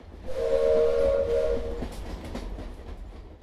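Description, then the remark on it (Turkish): A train travelling between Ankara and Istanbul sounds a sustained horn for a second or so over a steady low rumble of rolling wheels, then keeps rumbling and clattering as the horn fades; no one speaks. “120 bölümdür bu trendeyiz.”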